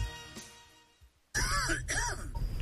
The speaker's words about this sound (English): Did you know the average cough can travel distances of up to 6 feet?